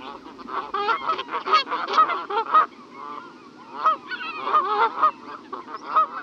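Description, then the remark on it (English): Repeated loud honking calls from Canada geese, large birds with black necks and heads, grey-brown backs and white cheek patches, several calling over one another in an irregular, overlapping chorus that keeps going throughout, with no talking. “The Canada goose is a large bird with a black neck and head, grey brown back and white cheek patches.”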